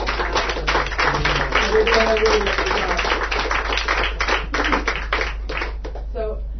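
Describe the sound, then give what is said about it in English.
An audience at a poetry reading claps for the musicians who played background music, many hands producing a dense patter that holds for several seconds before thinning out at the end. A few voices murmur beneath the applause. “So I'll ask you to clap for them again, but I think it'd be really lovely to give a clap for Mo, for Gary, and for Jack.”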